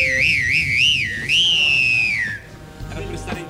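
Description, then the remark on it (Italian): A person whistles close to the microphone, a clear tone wobbling with strong vibrato before sliding into a long held note that falls away, followed by faint background noise. “Fischio con la vibrazione, è incredibile.”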